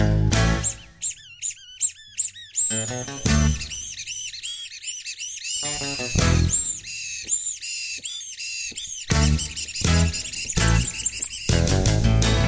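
A rubber chicken squeaks and squawks in loud, rhythmic bursts, its shrill tones sliding up and down in pitch, played like a tune over low thudding accompaniment.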